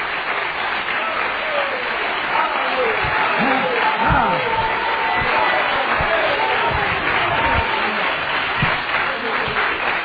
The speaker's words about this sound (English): Hallelujah. Amen. Would you clap your hands for that tonight? Oh, hallelujah.